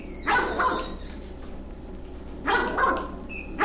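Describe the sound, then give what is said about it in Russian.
A common crow imitates a dog's barking, giving two short, hoarse bark-like bursts a couple of seconds apart, each with a quick double yap, clear with no talking. “Это не собака лаяла. Это лаяла обыкновенная ворона.”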